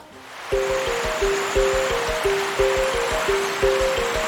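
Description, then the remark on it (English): Steady rushing of the Limpopo River flowing on a moonless night, by its banks on the Zimbabwean side, fills the background, fairly loud and continuous, with a regular pulsing low tone repeating over it about twice a second. No one speaks. “And now we move to the banks of the great Limpopo River.”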